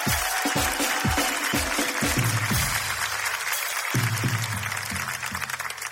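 A crowd claps in steady, dense applause for about six seconds, the sound staying loud throughout, with low, rhythmic thumps and murmuring voices underneath.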